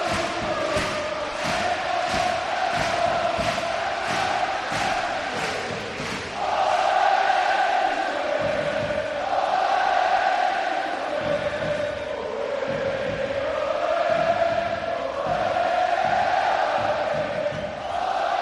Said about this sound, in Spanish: Y la gente, todo el campo aplaudiendo ahora.